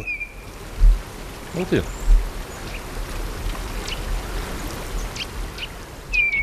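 The first mistle thrush of the year calls in mid-February, during a calm, sunny spell after windy weather, with a couple of brief, clear, high whistled notes, one at the start and one at the end, over a steady hissing wash of rain-like noise.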